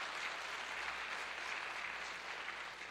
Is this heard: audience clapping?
yes